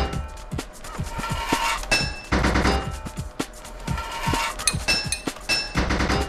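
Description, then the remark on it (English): Rapid metallic hammering clanks from a video game as a pipe is hammered in by tapping the control key, sharp repeated strikes in quick uneven bursts over a busy electronic background, with no one talking. “And then I'm tapping the control key to hammer the pipe in with my left hand.”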